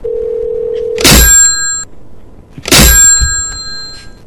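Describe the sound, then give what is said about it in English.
A steady dial tone hums for a second, then a telephone handset is slammed down loudly twice, each heavy crash setting off a bright, jangling ring of the phone's bell that fades out. “I wonder if I could wake him up with like a really loud phone slam.”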